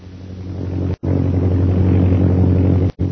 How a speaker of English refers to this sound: The British plane, they are directly overhead, Master. It must be brought down!